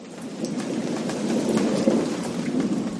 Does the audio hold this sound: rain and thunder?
yes